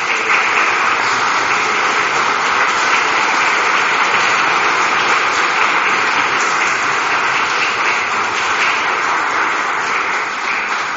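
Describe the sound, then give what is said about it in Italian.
An audience at an organ concert applauds steadily for about eleven seconds, welcoming a priest, a fellow townsman who composed the opening piece, a dense, even wash of many hands clapping at a loud level with no voices over it. “ed ecco quindi la grande gioia, io gli farei un applauso di essere qui tra noi.”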